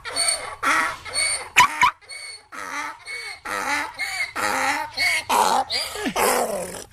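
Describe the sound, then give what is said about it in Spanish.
An electronic lock's waterproof alarm for motorcycles and bicycles blares a recorded growling, barking dog: about a dozen loud, rough bursts in a steady, choppy rhythm, with no talking over it. “Yo estaba recorriendo. La alarma suena así.”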